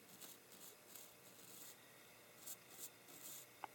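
Soft, repeated brushing strokes sweep inside a piano, a dry scratchy rasp in irregular bursts, fairly quiet, with a small tap near the end and no voices.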